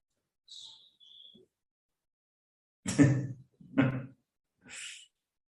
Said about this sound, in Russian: Вот из окна. Видите, деревца там. Лес. Видно, нет, было. Птички поют, попугайчики летают.